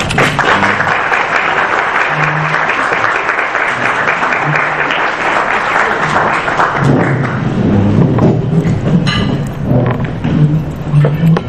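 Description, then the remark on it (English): A sustained round of audience applause welcoming a guest speaker at a lecture on the Vatican II Church and lay ministry, dense and steady clapping from many hands that holds at a loud level for over ten seconds, with a few low murmurs underneath. “Thank you all for the definitely premature round of applause.”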